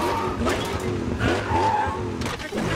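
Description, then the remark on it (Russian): A car engine roars while tires squeal and skid in wavering screeches as the car gives chase, a loud, continuous rush of driving noise with no voices. “А вон там моя машина. Вот она и преследует меня.”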